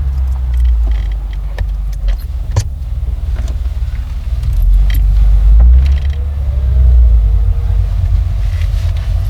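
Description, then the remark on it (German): A black limousine's engine rumbles low and steady, swelling as the car pulls away, with scattered clicks and creaks from inside the car. No one speaks. “Dann setzte sich der Wagen in Bewegung.”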